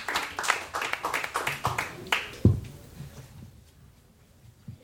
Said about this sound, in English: Clap your hands.